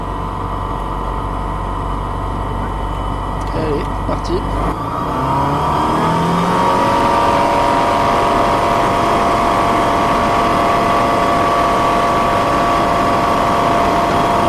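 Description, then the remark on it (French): A small airplane engine throttles up for takeoff after clearance at Avignon. Its steady low drone climbs in pitch after a few seconds into a loud, sustained roar with a strong humming tone. “Allez, décollage autorisé, on prend une grande respiration.”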